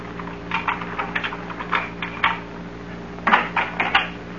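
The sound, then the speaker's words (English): Irregular footsteps tread outside the house, a dozen or so soft knocking steps in uneven clusters with a pause partway through, over a steady low hum and no talking. “Thought I heard footsteps outside the house.”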